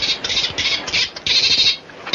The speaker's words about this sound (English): Good heavens, what's that? Well, that's Flipper. He's our pet dolphin.